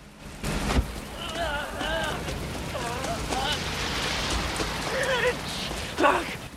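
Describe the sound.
Steady, heavy rain pours down at night outside a local hospital in a dense, continuous hiss, with muffled voices rising and falling faintly beneath it and a brief thump near the end.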